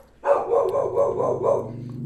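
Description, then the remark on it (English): A dog in a hallway barks in a quick, steady run of loud yaps, about six in under two seconds, with no one speaking. “The dispatcher interruption every 3 minutes or your damn dog in the hallway?”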